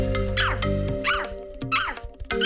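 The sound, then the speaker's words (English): A person imitates a dog with three loud barks spaced about a second apart, each a sharp rising yelp, over a steady low hum in the background. “Bark like a dog.”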